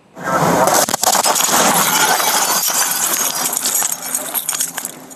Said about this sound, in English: New video this morning of the moments a home in New Jersey exploded while firefighters worked to put out a fire.